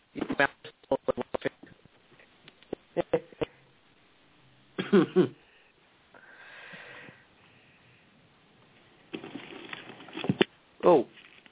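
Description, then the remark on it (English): A young man recovering from pneumonia coughs after laughing, in a series of sharp bursts, a rapid string at first, then heavier hacking spells with pauses between them, ending in one last loud cough. “Don't you laugh too much. You know, it makes you cough, son.”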